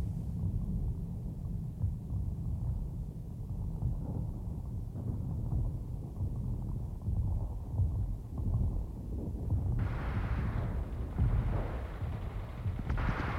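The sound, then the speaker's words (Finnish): An artillery barrage of drumfire to the south, toward Lake Ladoga, on a clear summer afternoon, rumbles continuously, a dense, muffled roll of low booms that never lets up, swelling with slightly sharper, heavier bursts toward the end. No one speaks. “Etelässä Laatokalla päin jytisi rumputuli.”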